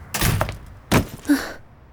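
An office door is pushed open with a broad rustling scrape, followed by a solid thunk as it swings shut, then a short low creak, with no voices.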